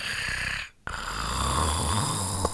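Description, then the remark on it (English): Steady snoring of Tiger, a sleeping animal: a long rasping breath, a brief quiet pause, then another drawn-out, noisy snore that carries through to the end. No one speaks. “Tiger is sleeping.”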